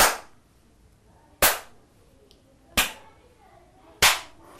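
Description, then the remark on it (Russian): Four sharp, loud hand claps in a slow, steady rhythm, each about a second and a half apart with a short ringing tail, tapping out how rain fell on growing mushrooms in a children's rhythm exercise. No one speaks. “А как ты думаешь, как капал дождь, если грибы выросли вот так? Прохлопай мне.”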